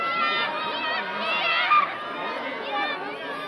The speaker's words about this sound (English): Crowds lined the way, and you could hear some among the spectators screaming the actors' and directors' names, pleading for them to come near to sign autographs.